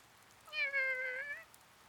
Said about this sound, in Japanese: はあ、なんもかんもがうまくいかないな。あ、猫。